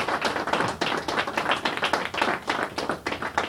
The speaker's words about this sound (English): Can we just give the Lord a hand clap praise for that? Thank you, Lord.